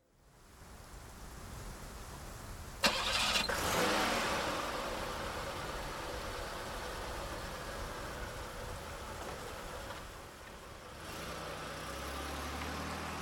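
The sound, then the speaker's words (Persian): A police car's engine cranks with a sharp burst, then settles into a steady idle beneath a constant hiss of rain, the low rumble rising near the end, as it sets off to drive to a bank. “با ماشین رفتیم سمت بانک.”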